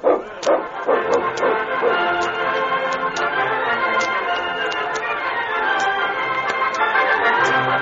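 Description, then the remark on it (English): A dog that has just run a hard race barks in a rapid string of sharp yelps, loudest at the start, with excited barking continuing at a steady level throughout. “My dog's had a hard race today, but he can still watch you.”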